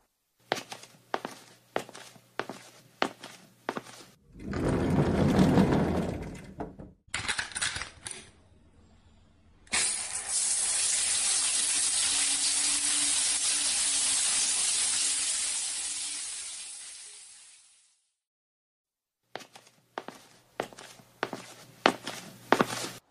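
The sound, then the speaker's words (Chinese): Footsteps, a short rushing burst, then shower water runs as a steady, loud hiss for about eight seconds before tapering off, followed by more footsteps. No one speaks. “啊，那我去洗澡了。”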